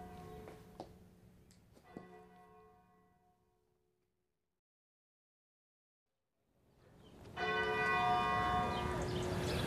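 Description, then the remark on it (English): Church bells ring out with strong, sharp strikes that decay into a lingering hum and fade to silence, then a louder, fuller peal of several bells swells back in and rings on continuously. “Oh, is that the bell? We'd better get down to the church.”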